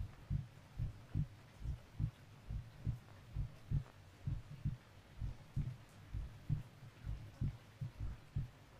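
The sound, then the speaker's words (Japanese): A slow, steady heartbeat thumps in soft, muffled low pulses, each beat a paired lub-dub repeating at an even, unhurried pace, with no talking; two people listen to each other's heartbeats, which slow as they relax. “こうしてお互いの心臓の音を聞いてると、だんだん気持ちが安らいでいくね。”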